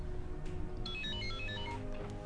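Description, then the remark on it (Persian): A mobile phone rings with a bright, melodic ringtone of short repeating electronic notes, playing steadily over a low background hum with no one talking. “موبایل منه”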